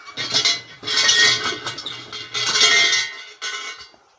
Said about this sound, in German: Also jetzt bin ich genau hier vor einem kleinen Schrein und mach mal der Schreingott, der Kami, schläft zwar schon, aber ich rüttel trotzdem mal hier an der Glocke.